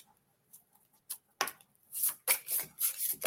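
A deck of cards being shuffled again to draw a message for someone: a few soft taps and flicks, then a steady run of five or six crisp, papery bursts in quick rhythm, with no one talking.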